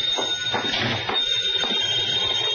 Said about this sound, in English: As I walked in the door, the phone was ringing.